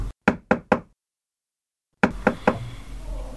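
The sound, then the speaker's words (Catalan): Three sharp knocks on a wooden door of a house in quick succession, then a pause of silence, followed by three more knocks over faint background noise, clear. “Quan portaven una estona caminant, van arribar a una casa i van picar la porta.”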